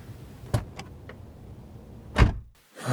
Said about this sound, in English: I'm getting back into the car.